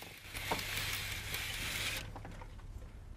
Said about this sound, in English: Stuart closes the window blinds again. Then he puts some keys down on a side table.